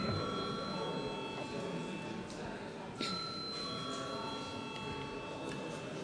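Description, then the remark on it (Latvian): An electric bell in a parliament chamber rings steadily for several seconds to call deputies to a vote, its metallic tone briefly renewed partway through, over the faint murmur of the chamber. “Lūdzu zvanu.”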